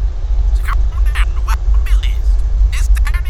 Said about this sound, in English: The car drives on, taking an on-ramp onto a freeway. As it does, a radio DJ's voice can be heard on a passing truck's radio.